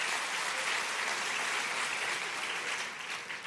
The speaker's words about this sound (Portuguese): Aí o cara, você pode aplaudir o senhor por isso, irmão? Aplaude aí, porque é de Deus esse negócio.